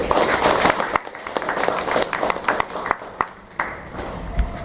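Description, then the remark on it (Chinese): An audience at a meeting applauds steadily to welcome leaders, guests and teachers: a dense, loud crackle of many hands clapping that runs the whole time, with a few sharper individual claps standing out before it thins slightly toward the end. “让我们再次以热烈的掌声欢迎各位领导、来宾和老师们的到来。”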